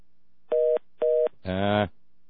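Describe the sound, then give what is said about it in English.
Two short, evenly spaced electronic telephone beeps, then a brief harsher buzzing tone as a phone line clicks through and connects a caller to a live call-in program. Clear, with no talking. “Let's try the phone.”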